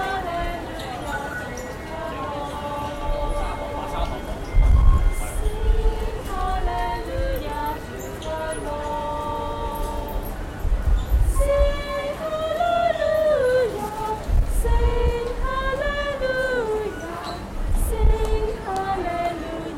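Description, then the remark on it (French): Busy metro station ambience at Mong Kok station in Hong Kong: a steady wash of overlapping crowd voices and echoing chatter, punctuated every few seconds by deep, heavy thumps and rumbles from trains. “nous sommes à Hong Kong, on est dans le métro. On est à la station Mong Kok, qui est juste à côté de la station Prince Edward”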